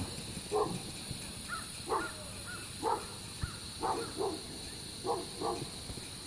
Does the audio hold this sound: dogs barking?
yes